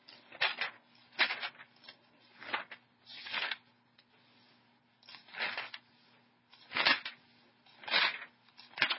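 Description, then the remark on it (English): Someone slowly turns the pages of a book one at a time, looking for a lesson in it: about nine soft paper turns spaced roughly a second apart, each a brief dry swish with quiet pauses between. “I'm grabbing it quickly, but for some reason I'm turning the pages slowly.”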